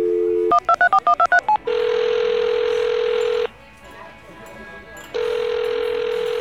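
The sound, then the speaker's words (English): A quick run of touch-tone dialing beeps, about eight rapid tones, as a phone places a call, followed by a loud, steady ringback tone that pauses briefly and then sounds again, clear. “Phone. Call Gary the IT guy.”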